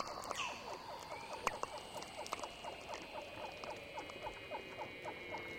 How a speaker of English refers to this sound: We'll also be featuring the work of Doug Quinn, a sound artist who has worked in Antarctica recording natural sounds such as the Weddell seals that we're listening to right now.